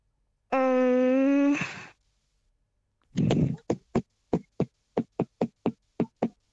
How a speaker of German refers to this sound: Machst du das auch manchmal so in der Küche, wenn du was rührst oder so, dass du einen Rhythmus klepperst?